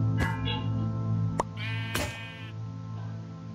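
A goat in a puzzle game bleats in a couple of short, nasal calls as the first goat is obtained, with sharp clicks between them and a steady background hum underneath.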